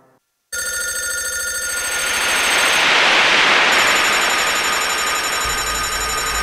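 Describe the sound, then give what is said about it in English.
A telephone rings continuously and loudly, a harsh metallic bell trill that starts abruptly after a brief silence and keeps going with no voices. “Pick up the phone, dumbass. Hey, it's something important.”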